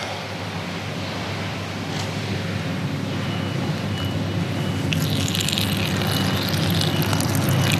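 A toilet flushes with a steady, full rush of water that turns brighter and hissier partway through, continuing without voices for several seconds.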